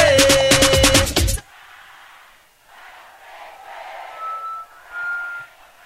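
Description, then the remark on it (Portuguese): A short blast of loud music cuts off, leaving a crowd of Remo football fans in a stadium chanting and cheering in swelling waves, with a couple of sharp whistles piercing through near the end. “Eu quero ouvir a minha torcida do Remo cantando bem alto.”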